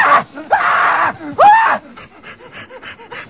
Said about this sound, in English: There's a scene where he yells loudly near the end. And I just anytime he freaks out, he's also got really perfect freak outs.